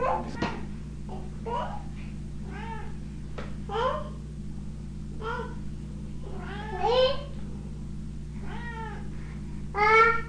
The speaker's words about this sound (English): I'm trying to get her. Get her to meow.